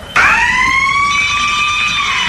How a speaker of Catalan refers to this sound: La campana que sonava quan acabava el temps per respondre